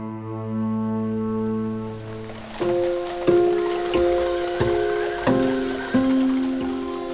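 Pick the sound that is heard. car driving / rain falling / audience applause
rain falling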